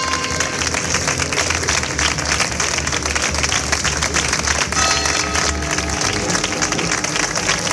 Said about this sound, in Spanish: Con estas campanas y con esta tremenda ovación que estamos escuchando, se ha despedido a los fallecidos en el pueblo de Aljará, que todos los vecinos del municipio, de este municipio de Huelva, ha despedido, como digo, a los 4 miembros de la familia